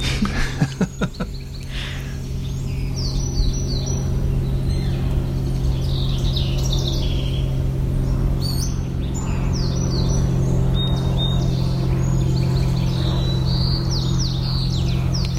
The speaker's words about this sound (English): I hear a float plane and a song sparrow.